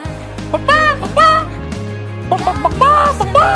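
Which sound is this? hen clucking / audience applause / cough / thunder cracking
hen clucking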